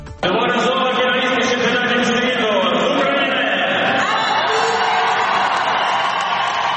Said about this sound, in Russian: Зал поддерживает украинку аплодисментами, а после финальных баллов взрывается овациями.